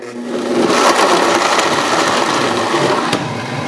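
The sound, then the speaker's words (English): A blender runs loud and steady, its motor whirring and grinding through a frozen batch with water added, a dense, rattling roar that holds constant for several seconds, with no voices. “So if you try and put the frozen stuff straight in the blender, it won't blend up.”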